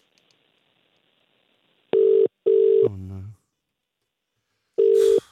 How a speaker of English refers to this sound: We're ringing your mum now.